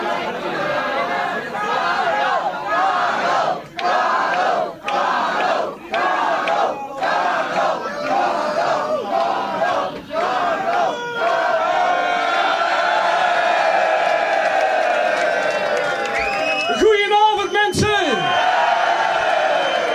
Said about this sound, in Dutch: Maar als jullie dan allemaal keihard roepen, Karel, Karel, kom dan, kom dan. Dan doe je de opkomst nog een keer.